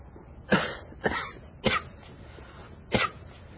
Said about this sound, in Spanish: está acostada en la cama y tose.